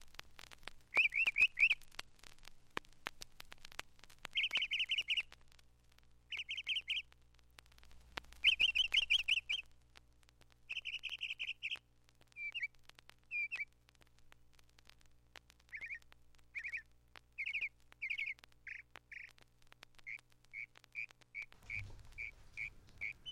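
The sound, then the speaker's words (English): A songbird sings an ever-changing medley of bright, chirping phrases, often repeating each phrase 3 to 5 times in quick bursts before switching to a new pattern, clear with no talking. “Singing an ever-changing medley, often repeating each phrase 3 to 5 times.”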